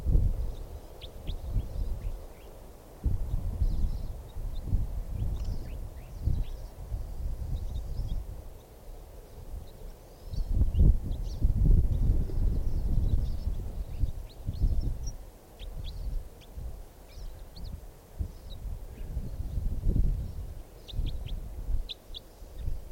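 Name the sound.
wild bird calling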